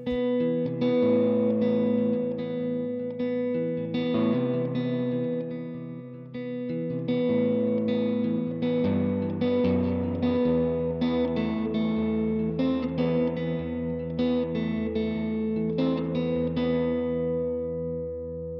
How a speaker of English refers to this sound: Oh, see? I mean, that is, it's a great sounding reverb. That's a fantastic, super splashy, lovely, very usable style reverb.